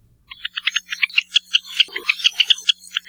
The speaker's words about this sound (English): we're talking about Java sparrows who can be recognized by their less than dainty beaks. But we also have their lovely calls for you